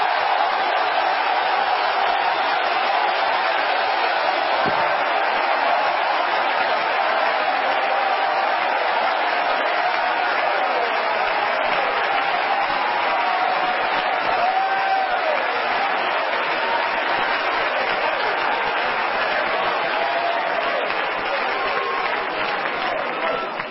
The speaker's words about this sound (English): Would you clap again and shout with your voice of triumph unto the Lord? For God is great and mighty.